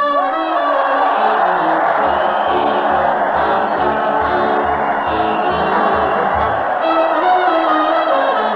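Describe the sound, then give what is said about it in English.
A crowd cheers and whoops loudly as Fred Allen leads his weekly parade to the old Town Hall on the radio show Town Hall Tonight, mixed with a brass band playing and a steady thumping drumbeat, continuous throughout. “Listen to that crowd.”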